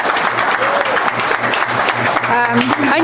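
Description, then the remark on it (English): Loud, sustained audience applause at a public commission meeting, a dense crackle of many hands clapping for about three seconds, with a voice faintly rising through it toward the end. “I know you appreciate what your fellows are saying, but please, no applause.”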